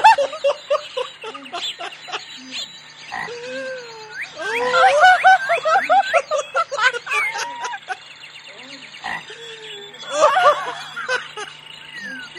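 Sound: birds squawking loudly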